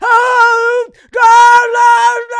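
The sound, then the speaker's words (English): A voice imitates a loud, wordless scream of a name: two long, high, strained yells separated by a brief gap, with no recognizable words. “You know, and I have no idea to this day what he actually screams, because it doesn't sound like any actual words.”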